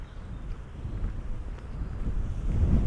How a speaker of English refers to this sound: So there's a real gust of wind coming now.